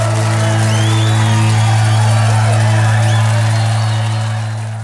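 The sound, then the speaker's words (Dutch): A crowd cheers loudly and continuously, with scattered whoops and high whistles rising above a dense roar and a steady low hum, fading slightly toward the end. “Maar dat publiek, jongens. Dat publiek, dat kan niet meer.”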